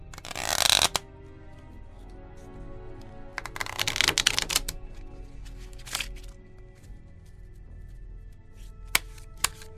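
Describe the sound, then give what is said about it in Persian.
A deck of playing cards is riffled in a quick, crisp burst, followed by a flurry of shuffling and then a few sharp, sparse snaps as cards are dealt out, with no voices. “اینم ورقا.”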